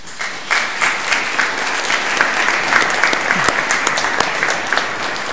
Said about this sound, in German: Also herzlichen Dank, dass Sie sich da engagiert haben. Ich denke, das ist auch ein Applaus wert.